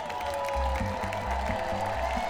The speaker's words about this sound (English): Everybody claps real loud. Tinkerbell, come back to life. That's not loud enough.